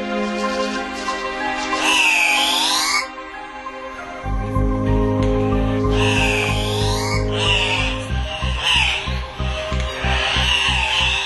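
A large flock of birds chirps and calls all at once, loud overlapping swooping cries forming a dense, continuous chorus, with deep croaking, buzzing calls pulsing underneath. No one speaks.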